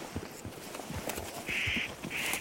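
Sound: spotted nutcracker call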